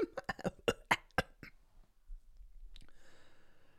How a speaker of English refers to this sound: Let me clear my throat.